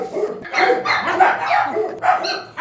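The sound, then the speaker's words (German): A dog barks repeatedly in quick, loud bursts, with brief pauses between barks and no talking. “Ist das jetzt jemand, der spazieren geht oder der Hund, der jetzt geliefert wird?”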